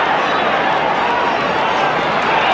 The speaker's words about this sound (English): Pardon me while I start my... crowd noise again.